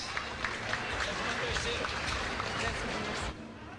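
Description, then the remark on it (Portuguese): A round of applause from a group at the 39th Carijo da Canção Gaúcha song festival, following the announcement of a classified composition: a steady dense patter of many hands clapping at fairly even loudness for about three seconds before tapering off abruptly. “Salva de palmas!”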